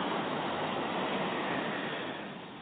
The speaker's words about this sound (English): You may be by the ocean, or you may be listening to a recording of ocean waves such as this.